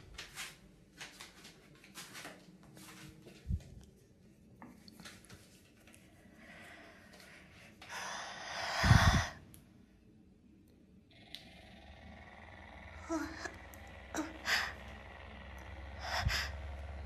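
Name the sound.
heavy panting breaths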